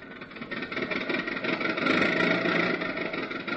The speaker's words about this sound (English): So we find him all dressed up with his three nephews in his car, barreling merrily down the highway.